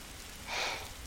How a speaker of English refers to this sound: Oh. Rain again, it seems. I suppose it is that time of year, early spring and all, but I think it's rained for quite enough time already, don't you?